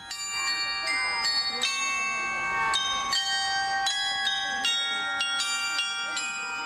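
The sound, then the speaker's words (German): The clock glockenspiel in Solothurn, a clock with only 11 hours, chimes the Solothurner Lied as a steady melody, each struck note ringing with bright overtones and lingering as the next one sounds, with faint background murmur beneath. “Das Glockenspiel, eine Uhr mit nur 11 Stunden, stimmt das Solothurner Lied an.”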